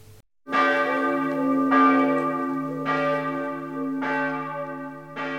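Church bells ring out for Christmas in a steady, unhurried peal, about five resonant strikes roughly a second apart, each blooming into a long, overlapping hum. No voices, just the bells.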